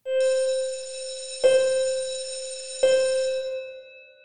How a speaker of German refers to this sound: Irgendwann glockelt eine Glocke und die Assembly kann beginnen.